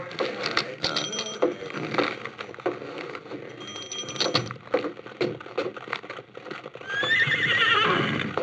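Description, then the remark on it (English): Horses clip-clop with irregular hoofbeats, and near the end a loud, drawn-out whinny rises and wavers over the stepping. “Here's my horses.”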